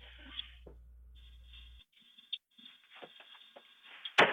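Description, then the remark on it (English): A man repeatedly kicks at the door of a home, trying to kick it down: a handful of irregular, dull thuds and knocks, fairly faint at first, with a low hum in the opening seconds and a sharper, louder bang at the end. “The first thing you hear is him trying to kick down the door.”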